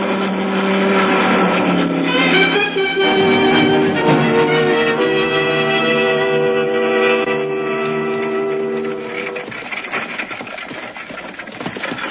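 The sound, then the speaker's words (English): An approaching patrol car with a spotlight, its engine humming loudly in a steady, tonal drone whose pitch shifts up and down as it runs, then dropping somewhat quieter for the last few seconds. No one speaks. “The car approaching has a spotlight. It's a patrol car.”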